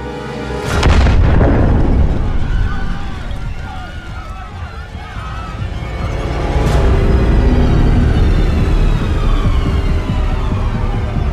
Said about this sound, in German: Am 8. November 1939 um 21.20 Uhr explodiert im Münchner Bürgerbräukeller eine Bombe.